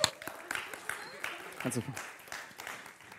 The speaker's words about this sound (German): Vielen Dank. Darf ich wieder setzen? Applaus für euch nochmal.